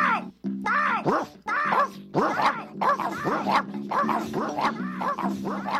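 A dog, Danny, barks and whines in rapid, agitated bursts, fairly loud, with high yelping cries repeating roughly every second over a low steady hum.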